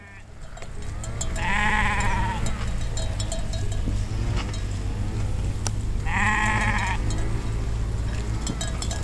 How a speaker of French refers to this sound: C'est des brebis de type mérinos, c'est des bêtes de plein air, donc très couvertes.